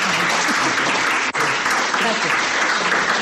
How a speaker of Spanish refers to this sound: Gracias. Son los aplausos para la directora, que ve esa parte que tenían los alumnos de BOE.